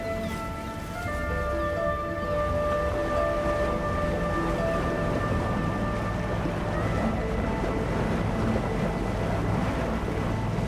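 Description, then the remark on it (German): A boat approaches over the water, its engine a steady tonal drone beneath constant wash of waves and wind, the humming tones thinning out toward the end. No one speaks. “Ah, da kommt das Boot all.”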